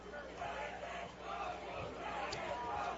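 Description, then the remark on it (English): A stadium crowd at a baseball game roars steadily throughout, a dense wash of many voices cheering and shouting for a strikeout from pitcher Tyler Witt on a full count with the bases loaded, with no single voice standing out. “And just as Darryl is calling for something, so is this crowd. They want to see something here from Tyler Witt. A big strikeout.”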